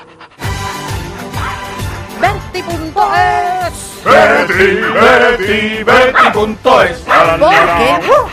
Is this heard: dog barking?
yes